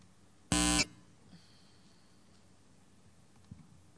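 A document scanner set to 300 dots per inch and brightness 50 starts scanning with one short, loud, buzzy tone lasting about a third of a second, followed by a faint high whine and a soft click, with no talking.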